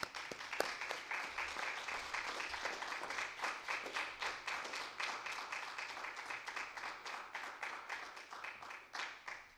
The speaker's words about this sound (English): Without further ado, would like to introduce Dad. And let's welcome him with a healthy hand clap.